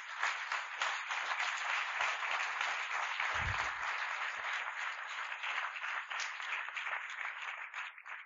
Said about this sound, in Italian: Ringrazio il professore, possiamo fargli un applauso.